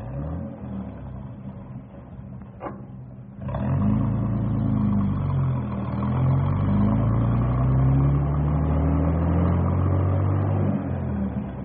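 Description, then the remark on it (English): A heavy bus engine clatters at idle, then roars louder as it revs and pulls away, its pitch climbing and falling through the gears, steady with no voices. “Well, we better get this bus rolling because it's getting close to pickup time.”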